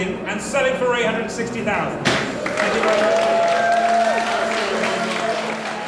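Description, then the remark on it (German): An auctioneer's gavel strikes sharply amid voices in an auction house sale room as an artwork sells for a record price, followed by a sustained burst of applause and crowd noise, with talking continuing underneath. “Und endlich fällt der Hammer.”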